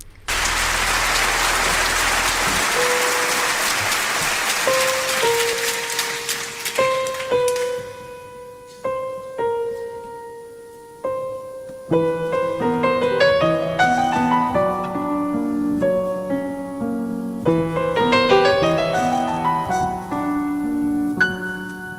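A live French song recorded at the Olympia in 1995 opens with a few seconds of steady hiss, like rain or applause, then a piano-like instrumental melody takes over, note by note, moderately loud, with no singing yet.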